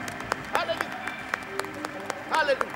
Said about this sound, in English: Give God a hand of praise. If you thank him today, give him a great big round of applause.